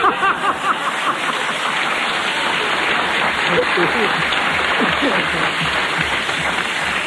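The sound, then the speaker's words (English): Steady audience applause, a dense crackle of many hands clapping at constant loudness for the whole stretch, with no voices rising above it. “But I would like to ask you not to applaud because I'm going to have to start doing that next week if you continue to applaud, see?”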